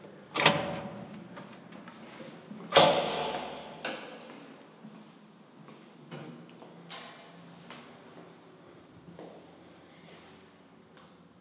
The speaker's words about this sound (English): Now, at the moment, I am standing right near the door to the back staircase. We have two staircases, a front and a back, which is handy in case there's ever a fire, God forbid. So here's the door to the back staircase.